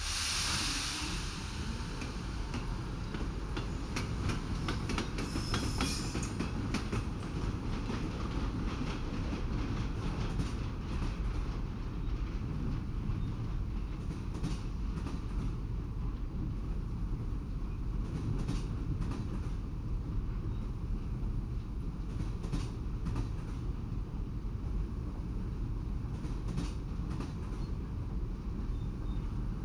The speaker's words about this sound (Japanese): それでは癒しの寝台列車キャトルセソン出発いたします。